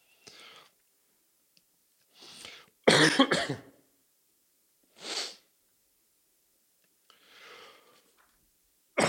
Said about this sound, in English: Excuse me. This cough is going to get me at some point.